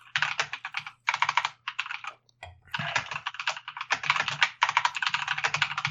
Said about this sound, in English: Eric will love my typing.